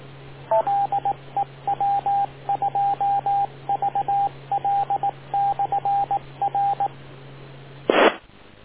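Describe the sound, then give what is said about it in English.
Rapid groups of short electronic beep tones, like touch-tone dialing, come through a narrow radio channel over a steady low hum, then end in a brief burst of static. “wait for the beep.”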